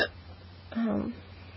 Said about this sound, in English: and then I had the worst hiccups. A lot worse than they are now. They're every second. I could barely breathe.